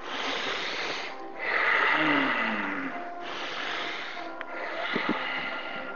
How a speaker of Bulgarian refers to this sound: Поемаш дълбоко въздух, пускаш. Дълбоко поемаш и пускаш. Дълбоко поеми и изпусни.